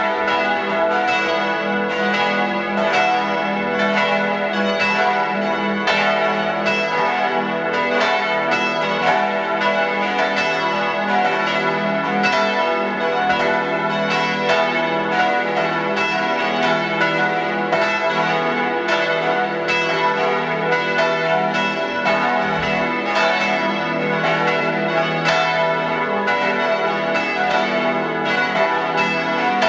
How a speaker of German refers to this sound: 12 Uhr. Sie hören die Glocken der Wallfahrtskirche zu unserer lieben Frau Maria Himmelfahrt in Kaltenbrunn in Tirol.